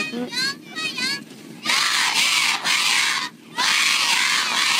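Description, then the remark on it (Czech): Children in a village in eastern China, the home village of Taiwanese politician Sun Yun-suan, cheer and shout to welcome him in the early 1970s. High, excited voices start with a few scattered calls, then two loud sustained bursts of chanting broken by a brief lull. “Takhle upřímně vítali na začátku 70. let tchajvanského politika Sun Yun-suana, děti v jeho rodné vesnici ve východní Číně.”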